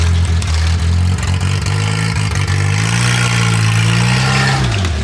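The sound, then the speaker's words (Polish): A car engine revs loudly through a shortened exhaust, its deep rumble rising and holding steady, then dropping back near the end, continuous with no talking. “No i niestety musieliśmy wydech skrócić, ale myślę, że to jest plus jego. Przynajmniej z daleka go słychać.”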